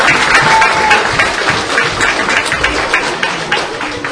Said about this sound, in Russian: Приготовились. Выход на одну. Раз. Два. Аплодисменты спортсмену.